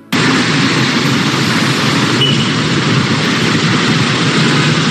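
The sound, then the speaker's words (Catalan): A steady, dense roar of busy traffic at Plaça Francesc Macià in Barcelona on a weekday at midday, engines and tyres blending into one loud, unbroken wash of noise with no voices standing out. “És aquí sota la ràdio, és la plaça Francesc Macià de Barcelona, un matí d'entre setmana, migdia.”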